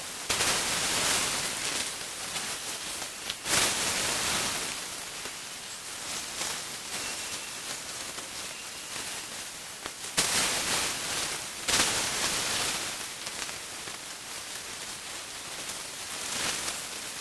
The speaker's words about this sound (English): Water sounds take up the whole sound spectrum. Splashes, running water, showers.